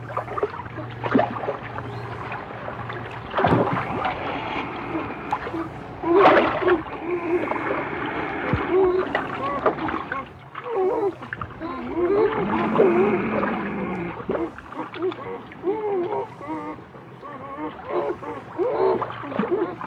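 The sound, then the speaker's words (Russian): Two beavers, a territory holder and an intruding neighbour, fighting in water: repeated bursts of heavy splashing and thrashing mixed with squealing, grunting animal calls, rising and falling over a low steady hum. “Тотчас на воде между хозяином и пришельцем завязалась борьба.”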